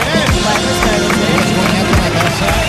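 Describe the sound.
Steady, dense applause, including a man standing up to applaud, holds at an even loud level throughout, with sharp claps scattered across a thick wash of crowd noise and a murmur of voices underneath.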